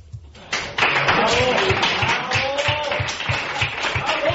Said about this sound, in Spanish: Bueno, pues con aplausos terminaba esta intervención por parte de la Peña Andatu, que, bueno, pues que ya han escuchado ustedes lo que reivindican.